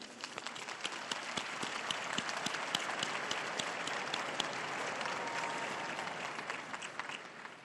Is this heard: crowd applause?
yes